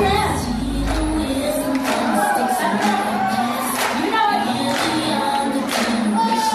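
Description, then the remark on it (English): A loud, steady wash of live music fills the space, with a song playing amid the dense murmur and clamor of a packed concert crowd throughout, while a female performer on stage claps and dances toward the edge of the stage. “She's on stage and there's a song playing,”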